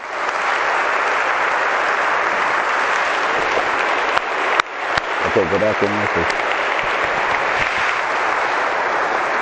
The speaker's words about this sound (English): And let's encourage them with our applause.